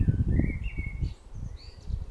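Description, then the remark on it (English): A very loud blackbird sings in a garden, its clear whistled phrases rising and sliding over a steady low outdoor rumble, with no one talking. “There's a really, really loud blackbird in my garden right now.”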